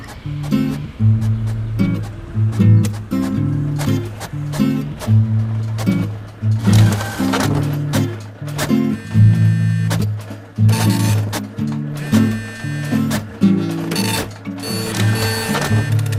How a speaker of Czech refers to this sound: Ta tiskárna, to znamená, vám začala znovu tisknout? Okamžitě. Tiskne vám to teď? Okamžitě, bez problémů, bez jakýkoliv chyby, bez jakýkoliv šmouhy.